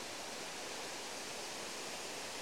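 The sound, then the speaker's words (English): Heavy water rushes down two waterfalls in a steady, dense roar that fills every moment without pause, loud, with no voices or other sounds over it; the falls carry water from Agill Dam down into Roundhill Reservoir. “We're now standing above two waterfalls, which are careering water from Agill Dam to our left, down into Roundhill Reservoir to our right.”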